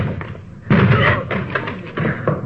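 Police officers force open a locked door with a loud crash, followed by several heavier thuds and knocks as it gives way, with a constant low hum in the background.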